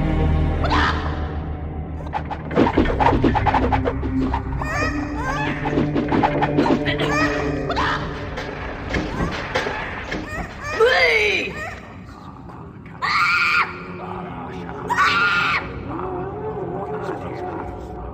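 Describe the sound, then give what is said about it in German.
A busy video game dungeon soundscape, moving from the gold fields through the training room and chicken farm to the torture chamber and temple: layered growls and roar-like creature cries, rising squeals, chattering voices and clattering effects over a steady low rumble, loud throughout with a few sharp bursts. “Lass uns mal schnell auf Hörreise durch einen Dungeon gehen.”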